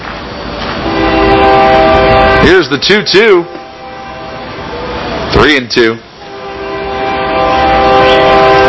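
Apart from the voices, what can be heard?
passing train with horn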